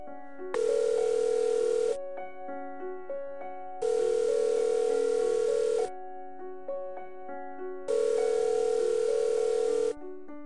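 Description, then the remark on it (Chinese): A telephone ringback tone plays as a phone call is placed, repeating three times. Each steady buzzing burst lasts about two seconds with short pauses between, sounding over soft, continuous background music. No one speaks. “我说我可以给他打个电话吗？”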